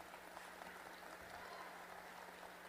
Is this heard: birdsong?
no